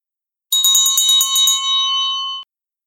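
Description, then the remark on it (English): Little bells on a pointed hat jingle in a quick burst of about eight bright strikes, then their tones ring on and fade out. Fairly loud, with no voices. “He had a strange pointed hat bent on one side with lots of little bells”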